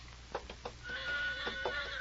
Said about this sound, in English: Yeah, that's my horse. He heard something.